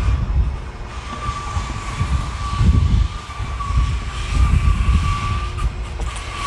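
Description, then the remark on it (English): A neighbor's power sander runs steadily on his wooden deck after 9 o'clock, its motor holding a constant whining tone over a rough, gritty rumble that swells and eases slightly throughout, with no voices. “Sanding his deck, apparently.”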